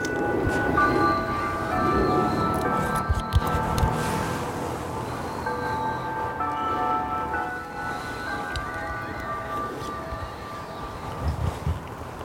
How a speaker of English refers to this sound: Yeah, these fucking bells are fucking me up.